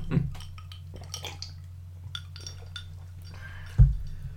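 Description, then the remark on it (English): Glass clinking as a drink of fake gin is fixed: scattered light, bright taps and clinks at an irregular pace, with a duller thud near the start and a louder knock near the end, over a steady low hum. “Gotta have some fucking fake gin.”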